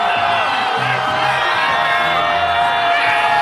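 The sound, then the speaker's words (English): A large outdoor crowd of Dodgers fans at a parade with open-top buses roars continuously, with loud cheering, whoops and scattered shouts blending into a dense, sustained wall of noise. “Again, the crowd going completely crazy.”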